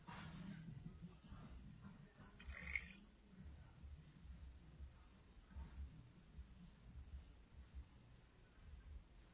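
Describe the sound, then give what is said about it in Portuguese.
A garden hose sputters and gurgles as water straight from the street supply tank starts to flow, with low, bubbling bursts and splashes continuing steadily, no clear talking over it. “Presta atenção, o que que vai sair da mangueira aí, ó?”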